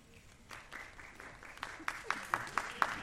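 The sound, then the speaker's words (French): Applause from an audience of about 400 people, asked to clap so the speaker can count, swells from scattered claps into a steady wash, with a few sharp, loud claps standing out in a fairly even rhythm toward the end. “Est-ce que vous pouvez applaudir que je compte ?”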